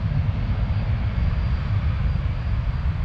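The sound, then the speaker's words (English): A low, steady roar of a plane landing overhead at one of the world's busiest international airports in LA, beside its runway at the Proud Bird restaurant, loud, its engine rumble filling the low end continuously with no voices. “Overhead, a constant parade of landing planes.”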